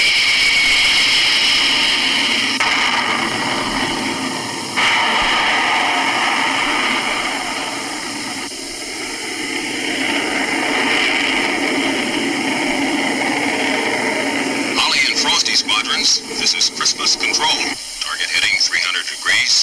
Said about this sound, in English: It's headed south at a very high rate of speed. Nine objects at 40,000 feet descending rapidly. We're now scrambling jet interceptors to identify this unknown track.